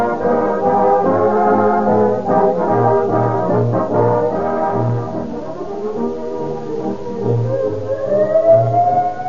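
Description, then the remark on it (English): A loud, shrill emergency siren of a police car, ambulance or fire engine wails continuously, its pitch climbing steeply near the end, over a low pulsing rumble. No voices are heard. “I hear that shrill siren of a police car, ambulance, or fire engine, I am reminded of Rio Grande cracked gasoline.”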